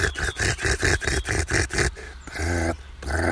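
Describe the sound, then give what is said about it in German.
A nightingale gives hectic, rasping alarm calls, closely strung together, while a marten stands still: a fast run of about eight harsh, buzzy bursts, then a short pause and a couple more grating calls. No one speaks. “Die Nachtigall. So ein Schnarren hat die. Und es war sehr hektisch. Die Alarmrufe waren sehr hektisch.”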